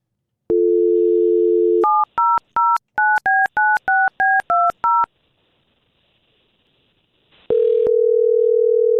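A steady dial tone hums, then about ten quick, clean keypad beeps are dialed in rapid rhythm; after a short silence, a loud continuous ringing tone comes through the phone line.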